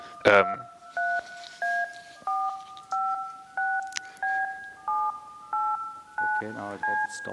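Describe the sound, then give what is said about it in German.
A run of about ten DTMF telephone dialing tones, generated to talk to a Fritzbox, each a short steady beep of two frequencies assigned to a button, separated by brief gaps, with bits of speech at the start and near the end. “Hier hört ihr jedenfalls DTMF-Pulse, das war eine Hörprobe.”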